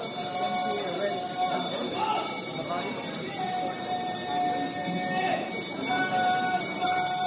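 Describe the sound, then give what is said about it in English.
Loud bells ring at dawn at the Tsukiji Fish Market tuna auction, calling buyers over to where the auctioneers work, on and on in sustained, overlapping metallic tones, with a bustle of voices and activity running underneath throughout. “Well, the first thing you hear at the crack of dawn is the ringing of some incredibly loud bells to call buyers over to the area where the auctioneers are working.”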